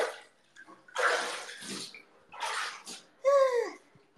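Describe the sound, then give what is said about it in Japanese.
Bath water splashes and sloshes in a bathtub during a livestream from a bathroom, in two or three fairly loud bursts, followed by a brief squeaky, tonal sound near the end. “風呂の水は頭皮に良くない。”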